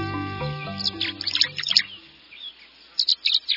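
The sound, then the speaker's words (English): Tree swallow calls in June, from birds gathering near nest boxes on posts at the edge of a marsh: bright, high twittering chirps in two short bursts, the first over a low sustained hum that fades, the second a quick cluster of clear notes heard alone. “Tree swallows glisten in the June sunlight. As they swoop and glide, their arcs interlacing in the air.”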